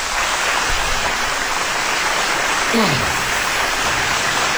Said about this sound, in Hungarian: Kedves népem, itt a … zenekar. Hatalmas tapsihar, önmagukat tapsolták meg.